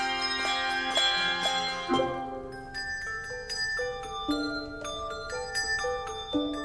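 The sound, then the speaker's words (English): Handbells ring out a slow sequence of clear pitched notes, each struck tone blooming and then lingering as the next one sounds, fairly loud with no talking. “A handbell is different from, say, a dinner bell in that the clapper is fixed so that it only moves in a north-south parallel.”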